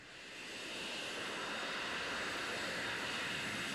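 A Jet Belt prototype engine roars with a steady, loud, hissing blast that swells up over the first half second and then holds constant and harsh, with no voices.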